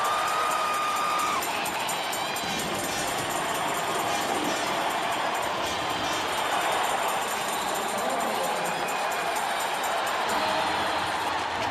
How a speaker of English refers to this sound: The packed crowd does the wave.